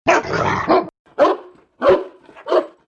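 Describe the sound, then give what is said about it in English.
A dog next door named Snarler lets out a rough, drawn-out snarling growl, then barks three sharp times in a steady rhythm, loud, with no one talking. “The rotten dog was always barking, growling and snarling.”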